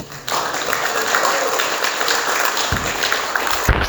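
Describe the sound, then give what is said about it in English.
A crowd applauds a speaker steadily, a dense wash of many hands clapping that starts abruptly and holds at an even, fairly loud level throughout. “Give Ray another round of applause, man.”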